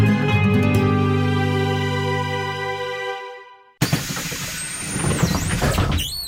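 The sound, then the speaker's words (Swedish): The air brakes of a bus on line 177 let out a long, loud pneumatic hiss with steady tones, then after a brief gap the doors clatter and squeal open with rattling mechanical noise. “Välkommen längst bak i bussen.”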